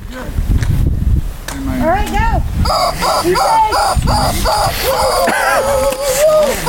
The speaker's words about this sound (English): Enjoy the chicken. Be prepared. There is a terrifying screaming chicken. So if it's a little loud, have fun. Maybe turn it down for a second.